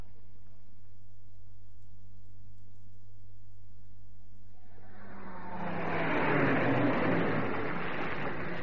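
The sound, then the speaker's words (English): A low, steady rumble gives way midway to a loud, dense hiss of heavy rain pouring down, swelling quickly and holding strong to the end, with no voices. “See the rain still coming down in buckets?”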